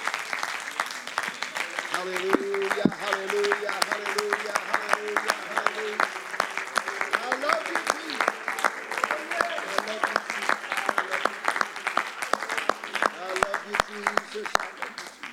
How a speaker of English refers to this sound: In Jesus' name, can you give him a hand clap of praise tonight?